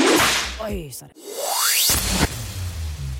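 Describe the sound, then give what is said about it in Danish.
A swooshing sound effect with a rising sweep ends in a sharp slap-like hit. A voice talks before and after it, and the whole thing lasts a few seconds. “men jeg har alligevel lyst til at give min onsdagsolfert. Den skal være stor, så den kommer helt nedefra.”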